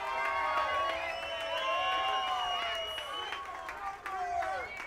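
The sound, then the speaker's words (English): A crowd cheers and shouts continuously, many voices overlapping in high, rising and falling whoops with scattered claps, staying loud and energetic throughout. “Come on, the energetic crowd.”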